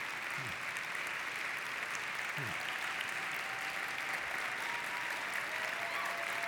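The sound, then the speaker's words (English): Sustained applause from a large audience at a Hope College chapel service, welcoming the college provost: a dense, steady wash of clapping that holds at an even level throughout with no pauses. “Provosts usually don't get applause like that, so I'm really grateful for it.”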